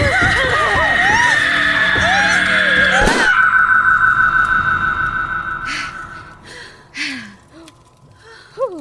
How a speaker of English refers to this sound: Oh, I can't sleep with all this screaming.